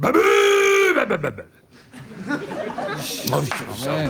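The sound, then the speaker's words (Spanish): A man's voice imitates a car horn, a loud, sustained, buzzy nasal honk with a raspy edge lasting about a second. It cuts off, and excited chatter and laughter follow. “Bocina con rebaba. Es que lo que más me gusta es la rebaba.”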